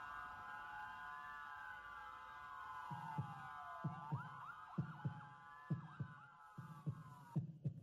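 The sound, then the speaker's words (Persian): A steady heartbeat fades in after a few seconds on a Radio Dari morning broadcast, its deep lub-dub thumps repeating in a regular rhythm over a sustained, slowly wavering electronic drone that runs throughout. No voices. “ضربان رو با هم بشنویم.”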